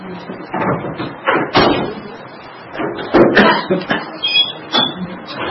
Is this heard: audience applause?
no